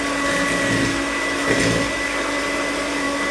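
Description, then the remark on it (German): A mixture of one cup of unwhipped whipping cream, egg and sugar being briefly stirred to make it frothy: a steady, loud whirring motor drone with a constant hum that holds unbroken for a few seconds, with no talking. “Die rühre ich jetzt mal kurz auf.”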